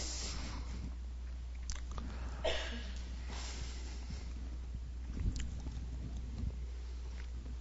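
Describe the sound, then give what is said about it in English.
Crisp bites and chewing on a vegetable dipped in salt water, representing tears, during a Passover Seder, a few soft crunches scattered over several seconds against a steady low hum, no talking. “So I'm just going to dip that and take a little bite. And that's salt water.”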